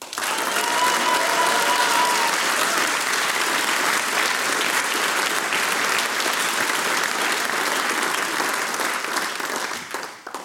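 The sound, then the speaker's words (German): Sustained applause from a folk music audience at the Hengist-Zentrum in Styria, greeting the radio listeners at home: a dense crackle of many hands clapping at a steady loudness for about ten seconds before tapering slightly at the end, with a faint tone briefly audible early on. “Und wir begrüßen auch mit einem kräftigen Applaus unsere Zuhörer daheim beim Radio.”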